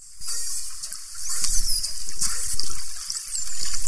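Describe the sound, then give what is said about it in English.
Dolphin signature whistles: short, very high-pitched tones sweeping up and down, repeated a few times over a steady wash of underwater hiss and rushing water. “It's a modulated, very high-pitched, very short whistle to our ear”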